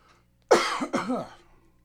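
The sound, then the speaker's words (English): A sharp cough, quickly followed by a second raspy burst and some throaty clearing that trails off, with no talking over it. “How about a throat without a cough, huh?”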